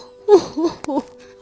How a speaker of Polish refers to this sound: oddychamy głęboko. Tak, głęboko oddychamy, tak, super.